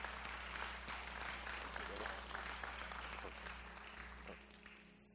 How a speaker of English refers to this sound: let's everybody give a round of applause